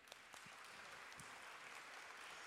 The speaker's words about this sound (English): Another round of applause for our volunteers today.